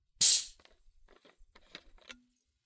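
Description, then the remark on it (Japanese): A sharp hiss of gas escaping as a bottle of homemade soda, carbonated at maximum level with a SodaStream, is opened, followed by faint scattered crackles and pops of fizzing bubbles, quiet, with no one speaking. “作ったって言ってもソーダストリームでソーダストリームレベルマックスで作り上げた炭酸で作りましたよ。今あるんですよ。ちょっと待って。まだ残ってるかな、炭酸。”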